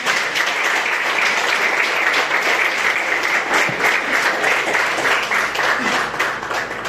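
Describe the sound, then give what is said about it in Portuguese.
Sustained applause from a large church audience clapping in praise of the Lord, dense and steady for several seconds with hundreds of overlapping claps, loud, with no clear voices above it. “E as palmas louvem o Senhor.”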